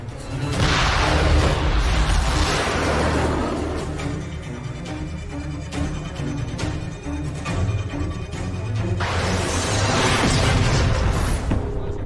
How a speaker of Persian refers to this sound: موشکمونو با ضد آتش منهدم کردن قربان.